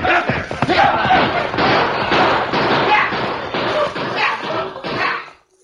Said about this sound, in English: The band of shouting outlaws raced toward the herd with guns barking. The peacefully grazing herd became a thundering stampede of terror-stricken cattle that was held in a close mass of bobbing longhorns by the hard-riding outlaws.